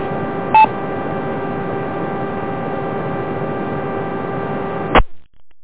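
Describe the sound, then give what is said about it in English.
A single short keypad tone beeps early over a steady, hissy radio channel with a low hum as an operator presses keys, hitting the wrong key, to bring up an EchoLink connection; then a loud squelch click cuts the transmission off near the end. No one speaks. “Sorry, I kept hitting the wrong key to key the echo link up.”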